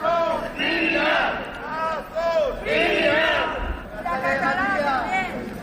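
A crowd of members of an association of relatives of DANA victims, gathered in front of the regional parliament demanding the resignation of the president of the Generalitat, shouts in loud, overlapping waves, voices rising and falling together in chant-like bursts of roughly a second each, with no pause in the noise throughout.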